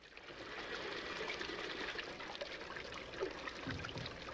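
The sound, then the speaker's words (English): A woman in a bathroom splashes water from a basin onto her face over a steady running trickle, a continuous wet rush with a couple of brief sharper splashes near the end. No voices. “She splashes water onto her face.”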